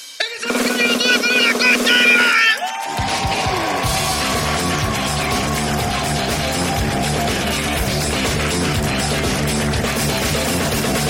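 A brief musical sting gives way to a loud, sustained wave of audience applause and cheering at the improvised comedy show Hablando Huevadas, continuing steadily for several seconds.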